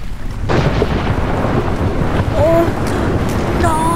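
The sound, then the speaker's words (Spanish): A deep, powerful rumble of a volcanic eruption swells in suddenly and roars on without a break, loud, with faint high whistling tones flickering above the din. “¡Es una erupción del volcán!”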